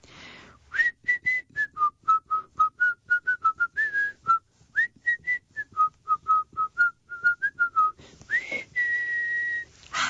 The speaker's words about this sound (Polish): a dzisiaj to jakoś mnie wzięło na gwizdanie. I w samochodzie mi wychodziło, a teraz pewnie trochę się zawstydzę i może będzie grzej, ale jechałam do was i zamiast śpiewać, robiłam tak.